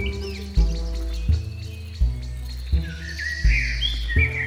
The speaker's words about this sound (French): On entendait les oiseaux volant bas dans les nuages. C'était comme si les éléments se relâchaient après l'orage.